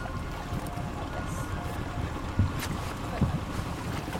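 A boat engine drones steadily as the boat is brought around near the shore, with wind buffeting the microphone and a couple of low thumps, like a hull knocking against water.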